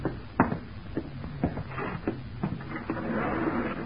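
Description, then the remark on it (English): The bolt of a rifle carried by Sir Bennett Mountford being worked outside a door to jam a shell into the chamber: a handful of sharp mechanical clacks and slides spaced irregularly over a few seconds, with a low rumble underneath and no voices. “It sounded like a bolt jamming a shell into the chamber of a rifle.”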